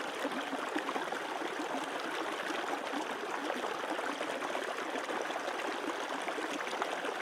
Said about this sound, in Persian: میخواییم یک مدیتیشن هدایت شده انجام بدیم، یعنی من صحبت میکنم با این بک‌گراند آب و شما هر کاری که گفتم انجام بدیم. چشمات رو ببند تا شروع کنیم. چشمات رو ببند، تمام آگاهیت رو به صدای رودخانه متمرکز کن.